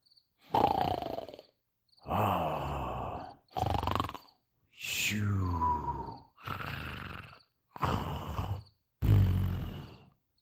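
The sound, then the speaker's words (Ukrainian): Two people, an uncle and an aunt, snoring loudly in turn in their sleep, seven heavy, rasping snores with short pauses between, some ending in a whistling downward glide. Steady, with no talking. “Здається, наче ми потрапили у пащику до ревучого лева або тигра. От хропуть дядько з тіткою, ну й хропуть.”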